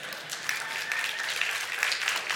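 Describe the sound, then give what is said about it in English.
An audience at Calvary Chapel applauds after an announcement: steady, dense clapping from many hands forms a bright, even wash of sound lasting the whole moment, with no voices standing out. “Did I hear an applause?”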